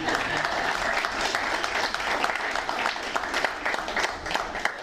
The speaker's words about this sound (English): And if you want to give him a round of applause, too, he's got a hell of a wine.